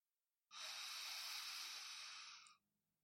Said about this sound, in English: So as I'm doing this now, I'm visualizing that, I'm breathing out of my left nostril, and I am saying these words.